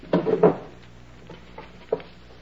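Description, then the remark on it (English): Drawers of a chest of drawers being yanked open during a search of a room: two loud wooden slides and bumps right away, then a few softer, scattered knocks and rattles as the rummaging continues. No one speaks. “You take that chest of drawers, and I'll pull the bed apart.”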